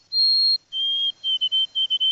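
Urban sparrow song as it sounded in major cities before the COVID pandemic: a long, clear, high whistled note, then a slightly lower sustained whistle breaking into a quick run of short, bright notes, heard alone with no talking.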